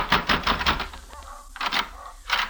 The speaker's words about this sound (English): Sandy McQuill's address turned out to be a third-rate hotel, past the Frank Quarter and near the Hassan Bazaar. I took the steps up two flights and slammed at McQuill's door.